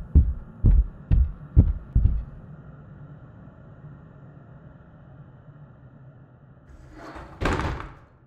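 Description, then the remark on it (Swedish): Five loud, heavy knocks on a front door land in a quick, steady rhythm, then give way to a low quiet hum, with a short, rough burst of noise near the end. “Höga knackningar från ytterdörren fick mig att hoppa till.”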